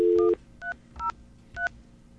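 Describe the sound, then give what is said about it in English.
In an old recording of a phone call that does not go through, a steady telephone dial tone cuts off as touch-tone dialing begins: three short, clear two-note beeps spaced about half a second apart, with no voices. “How about an old school recording of a phone call not going through?”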